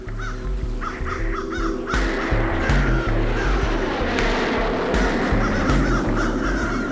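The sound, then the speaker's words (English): Several crows caw in short repeated bursts on a runway while eating a dead seagull, over a steady, loud low rumble like an idling aircraft engine, with occasional sharp clicks cutting through. No one speaks. “It's a seagull. The crows were eating it.”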